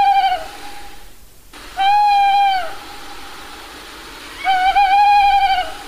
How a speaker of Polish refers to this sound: Jest to głos samca puszczyka terytorialnego, nie za bardzo agresywny, że tak powiem, nawołujący, ale jeśli mamy tutaj samca terytorialnego w rewirze, to powinien zareagować.